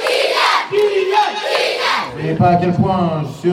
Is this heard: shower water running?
no